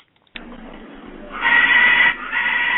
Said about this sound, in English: Something's going on in the background with a macaw or a African gray or some type of bird. Hey, you guys. Hey. Yeah, that was the macaw.